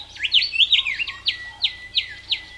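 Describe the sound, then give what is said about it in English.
A male Willie Wagtail sings a quick run of bright, chattering whistles, then settles into evenly spaced sweet notes repeated about five times, clear with no voices. Recorded in the Australian outback, the bird perched on a branch just overhead. “There's a Willy Wagtail. Man, I heard him in the Australian outback.”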